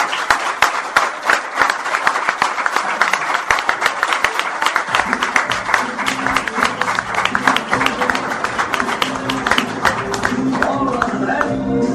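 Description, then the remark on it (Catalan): An audience on a radio programme applauds steadily, a dense, continuous patter of many hands clapping for the whole stretch, with music rising underneath partway through. “Vinga, un fort aplaudiment, eh?”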